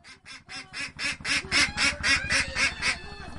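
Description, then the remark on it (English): A rapid series of about a dozen raspy, fairly loud quacks from ducks kept in a coop on a floating farm made of bamboo and empty oil drums, attached to a river bank near the village of Charbungara, in a steady, almost rhythmic chatter with no voices present. “is gathering eggs from the ducks that live in what is called a coop on her floating farm.”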